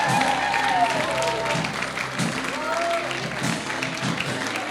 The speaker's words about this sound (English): Come on, let's keep clapping them out.